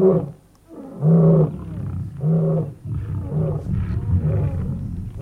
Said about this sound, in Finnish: Ne tulevat koko ajan lähemmäksi. Leijonat, 5 metrin päässä.